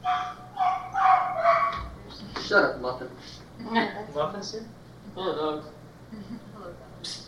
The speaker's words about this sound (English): Pack of wild dogs.